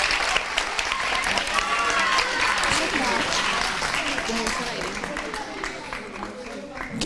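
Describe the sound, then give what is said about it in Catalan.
A crowd claps steadily for several seconds for three people, a dense, continuous patter of applause with a few voices and cheers mixed in. “Vinga, va, un aplaudiment per ells.”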